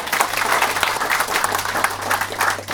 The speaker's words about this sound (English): So thank you, and I'm happy to answer any questions you might have, but I realise we've got to stop. I think we'll have a round of applause first.